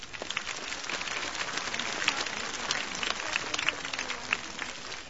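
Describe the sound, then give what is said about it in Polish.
A short, modest round of applause for the priests celebrating mass with the bishop, many hands clapping in a dense, steady patter at moderate volume, with a few sharper claps standing out; no one speaks. “O, jeszcze oklaski malutkie.”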